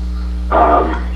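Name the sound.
neighbors' dogs barking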